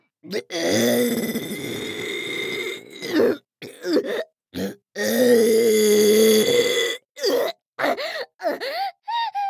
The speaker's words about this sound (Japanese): 先輩、こいちゃう。でっかいカクテルゲップこいちゃう。出る出る出る出る出る出る出る。